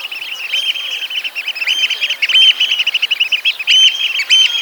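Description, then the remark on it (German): Wader birds call in a busy chorus of high whistles and rapid trills, overlapping continuously with sharp rising notes standing out; no voices, just the birds throughout. “die klingen ja alle irgendwie so, die Wartvögel.”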